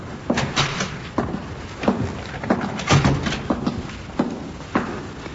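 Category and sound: household object, door opening and closing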